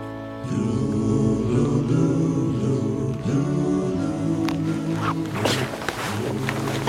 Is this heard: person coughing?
no